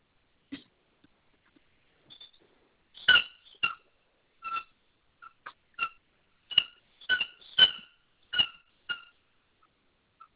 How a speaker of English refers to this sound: I can hear a cat, I guess. Is that a cat? Oh no, that's that stupid ass dog of mine playing with a toy.